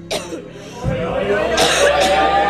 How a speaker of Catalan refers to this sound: El que més emprenya en Gabriel és la tos de … durant la nit.